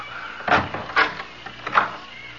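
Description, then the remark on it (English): A closet door creaks open in three short, squeaky strains spaced about half a second apart, moderately loud, with no one talking. “Not till I open the door to the closet.”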